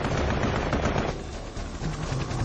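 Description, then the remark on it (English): Dense, rapid bursts of heavy anti-aircraft gunfire pound away continuously at rescue helicopters near downed airmen, loud, with rattling reports blending into a constant roar and no voices present. “The rescue choppers were pummeled with anti-aircraft fire.”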